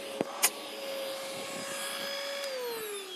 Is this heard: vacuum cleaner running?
yes